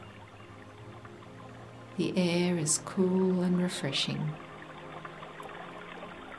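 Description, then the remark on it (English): Water of a small creek in the bush rushes around rocks, smooth stones and pebbles in a steady, even hiss that runs the whole time, with a calm voice speaking briefly over it partway through. “You hear the water rushing around the rocks.”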